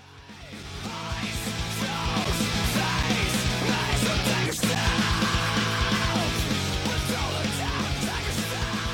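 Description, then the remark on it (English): A rock singer screams and yells over loud, dense band music, the raw vocal strained and sustained throughout the steady, driving mix. “why are you screaming so much when the music's coming in?”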